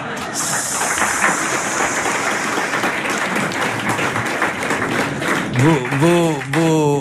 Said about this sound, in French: Vos applaudissements, mes chers spectateurs et auditeurs, saluent une admirable camaraderie.